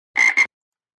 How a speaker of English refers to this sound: Then they heard a noise out the window. It sounded like a frog.